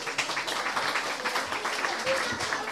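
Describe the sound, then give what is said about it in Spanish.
A crowd applauds with a dense, steady patter of many hands clapping that holds at an even level for a few seconds, with a faint murmur of voices underneath, as thanks to Arroces del Mundo. “Queremos darle las gracias a Arroces del Mundo, porque a través de la gastronomía vamos a poder viajar a muchos países del mundo.”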